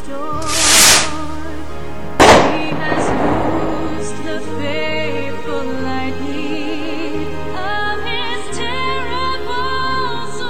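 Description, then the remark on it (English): Two booming fireworks bursts celebrating the 4th of July 2007 in America, the second louder with a crackling tail, ring out over an orchestral music bed that continues steadily after the explosions fade. “Join us now as we salute America on her birthday with fireworks and music.”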